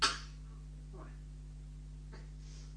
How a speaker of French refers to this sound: tousse un peu. Tousse.